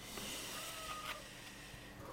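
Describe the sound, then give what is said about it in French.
Soft, steady noises from a domestic cat inside a house, a low rumbling purr with faint snuffles and small clicks, quiet, with no one talking. “Je m'excuse pour le bruit, j'ai un chat dans la maison, mais qui aime beaucoup Saint Thomas d'Aquin, mais qui est très bruyant.”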